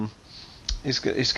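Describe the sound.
A sharp click of dice being handled as they are counted, followed by a faint rattle as someone begins speaking over it.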